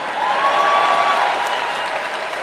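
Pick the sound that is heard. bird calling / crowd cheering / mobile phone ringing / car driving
crowd cheering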